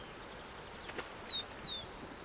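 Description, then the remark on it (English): A tern flying in tight circles over a river just before it empties into a bay gives a quick series of about four high, thin one-syllable chirps, each a short downward-sliding note, over a soft hiss of background with no voices. “The tern flew in tight circles, calling its one-syllable chirp over and over.”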